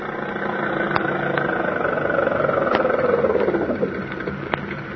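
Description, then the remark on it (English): A car engine runs steadily and fairly loud throughout, its droning pitch gliding downward midway as if the vehicle slows, with a few faint clicks over the rumble. “Stop that car, huh?”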